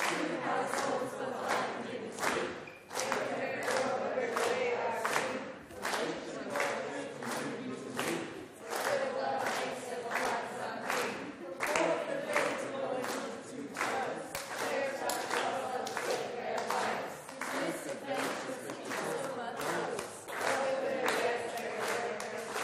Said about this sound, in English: Keep clapping. Now, I'm going to count you in. You're going to get as far as you can get without my help.